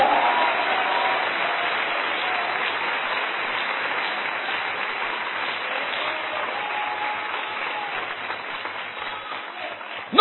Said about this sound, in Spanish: ¿Pueden dar un aplauso al Señor en esta noche?